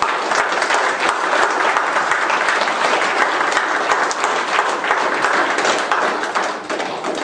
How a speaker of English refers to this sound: Give my father-in-law a hand of applause.